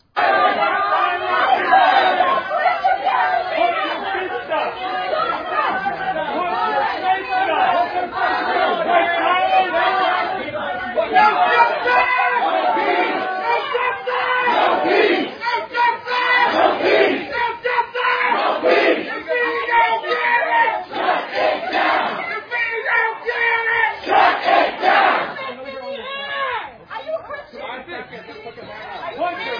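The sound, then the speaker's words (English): A Black Lives Matter protest crowd in front of a diner in Washington, D.C. shouts and screams continuously at people eating, a dense, loud mass of overlapping voices with chanted bursts and yelling of "are you a Christian?" that stays intense for the whole stretch, easing slightly near the end. “They begin screaming, are you a Christian?”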